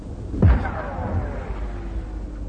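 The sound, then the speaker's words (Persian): A single loud explosion bursts near a car with a deep, heavy boom, then a rumbling tail slowly fades over the next couple of seconds. No one speaks. “بازم خیز روی زمین و انفجار نزدیک ماشین.”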